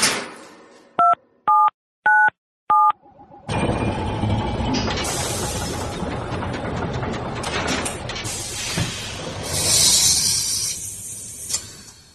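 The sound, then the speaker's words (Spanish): Four short, evenly spaced keypad beeps from the keys of the 'cronovisor' time-machine keyboard, each a steady two-tone chime, like phone dialing tones, followed by a loud whooshing, swirling noise with rising and falling textures. “Jesús Callejo, tengo aquí delante las teclas del cronovisor de nuestro teclado.”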